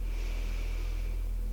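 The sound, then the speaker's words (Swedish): A long, steady inhale, a deep breath drawn in through the nose or mouth as a continuous airy hiss lasting over a second, with no talking, taken while angling the toes downward during a guided foot exercise. “Andas in när du vinklar tårna neråt.”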